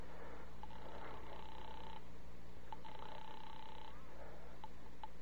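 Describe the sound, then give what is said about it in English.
A telephone being dialed from a phone booth in a drugstore to call the speaker's sister: a few sharp clicks, then two long, steady electronic tones about a second each, over a low, constant hum. “Instead, I went to the phone booth and called my sister Lil.”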